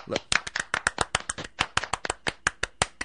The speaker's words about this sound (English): But I think they all deserve an ATS Mix golf clap.